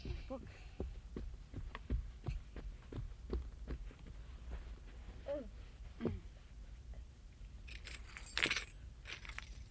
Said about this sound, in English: I'll show you something. The keys come apart. We can take some keys off. Look. Keys.